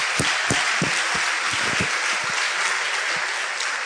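A crowd applauds steadily, a dense wash of many hands clapping at an even loudness throughout, with a few sharper individual claps standing out in the first half.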